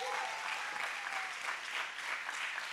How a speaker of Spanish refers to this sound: Dale un fuerte aplauso a Tommy. Gracias, Tommy.